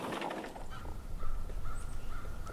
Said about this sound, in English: Crows fly overhead.